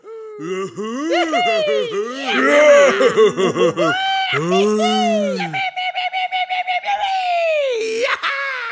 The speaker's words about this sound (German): Es war ein Johlen und Grölen und es klang ziemlich wild.